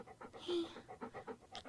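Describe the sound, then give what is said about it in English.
A male puppy pants in quick, steady, breathy bursts, several short huffs a second, soft with no other sounds over it. “Come here, puppy.”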